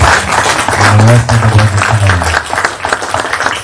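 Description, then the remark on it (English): A crowd at a meeting applauds the budget committee chairman and department heads, a dense wash of clapping that swells loudly and then thins out over a few seconds, with a low murmur of voices mixed in. “All right, so at this point, I would like to lead us in applause to our Budget Committee Chairman”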